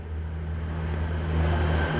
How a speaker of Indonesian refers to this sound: Ada suara motor. Ah, ada suara motor nih